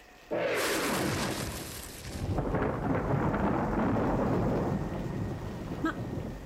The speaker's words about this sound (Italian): L'ho portato io questo temporale? Forse sì.